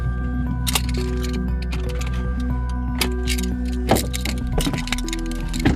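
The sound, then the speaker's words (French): A car engine hums steadily, low and constant, while a car parks just behind a truck at a construction site, with scattered clicks and short knocks of moving parts. Nobody speaks. “On va se garer juste derrière le camion.”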